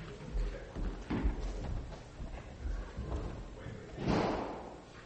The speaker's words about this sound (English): Doors are closed? Fantastic. Excellent. Popping balloons.